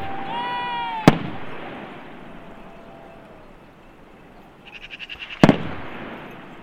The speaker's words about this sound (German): Und die Schüsse, die in der Ferne zu hören sind, lassen darauf schließen, dass es vermutlich nicht geschafft hat, zu entkommen.